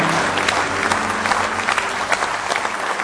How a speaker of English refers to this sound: Give the Lord a good hand clap of praise if you love him with all your heart.